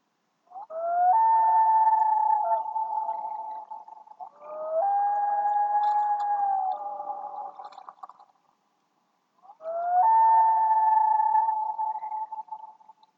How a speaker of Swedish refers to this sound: Långt bort hördes ett skarpt fågelläte. Så mycket hade han lärt sig att det var storlommen som rörde på sig.